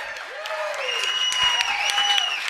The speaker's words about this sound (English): So round of applause.